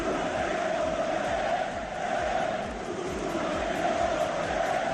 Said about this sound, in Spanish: Estos son los gritos que se escucharon en Cornellá.